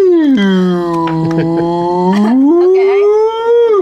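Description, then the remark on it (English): A person voices a long, drawn-out whale call, a loud, close moaning tone that wavers, dips low, then slides back up over nearly four seconds. “Two whales are sitting in a bar. Here we go. Whoa. One of them goes.”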